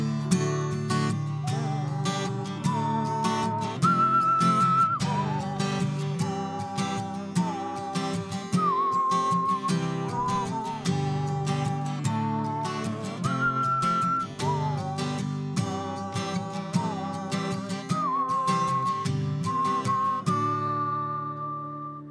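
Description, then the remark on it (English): A whistled melody carries the tune, with steady held notes rising and falling over strummed acoustic guitar accompaniment, fairly loud and continuous throughout with no singing or talking. “Whistle solo.”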